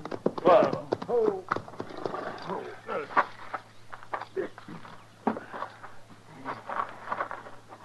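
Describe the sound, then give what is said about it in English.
Several horses clop along, their hooves clattering loudly at first, then thinning out and slowing as the riders stop to rest the horses, over a steady low hum. “So we better breathe our horses a little. Let's stop here.”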